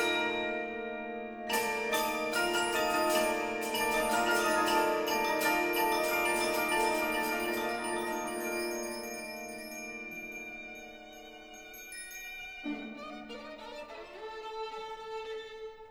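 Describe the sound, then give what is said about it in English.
Bright, bell-like metallic chimes of an orchestral pseudo-gamelan ring out in clustered strikes over sustained orchestral tones and a series of expressive solo violin lines, then fade before a fresh burst of chiming near the end. Ballet music for the Kingdom of the Pagodas, showing Indonesian influence. “A series of expressive violin solos is punctuated by the chiming of Britain's pseudo-gamelan, as he says the pagodas revolve like merry-go-rounds.”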